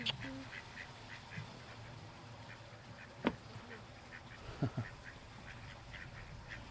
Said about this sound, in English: Here come the ducks.